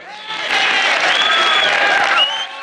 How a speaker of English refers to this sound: As Boone, Otter, and Robert come in, all the other frat guys cheer enthusiastically.